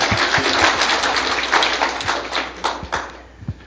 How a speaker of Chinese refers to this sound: 阿们，让我们用掌声把一切的荣耀归给我们的神。阿们。